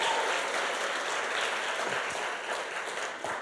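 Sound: audience clapping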